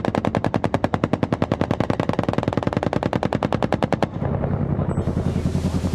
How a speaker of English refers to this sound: Cobra helicopters, two of them, hitting the trench where the three gunmen were who killed Corporal Yazzie. But the gunships hit the wrong trench.